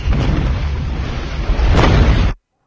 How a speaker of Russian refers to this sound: Значит, мы публикуем видео, и это эпично. Все, отзывайте свои требования фиксировать звонки паникерские про взрывы. В телеграм-канале «Радио говорит МСК». Сейчас видео, сейчас посмотрим со звуком взрывов.